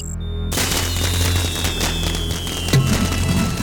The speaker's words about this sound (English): It was just some fireworks and road flares I taped together.